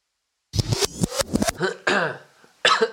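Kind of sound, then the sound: human body sound, cough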